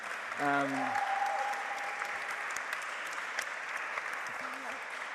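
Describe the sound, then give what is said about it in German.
A short burst of audience applause for four people who agreed to share their personal stories about the Holy Spirit; dense steady clapping that stays fairly even in loudness for several seconds, with a brief voice-like tone and a bit of crowd noise mixed in. “Ich möchte einen kurzen Applaus geben, dass ihr da bereit sind.”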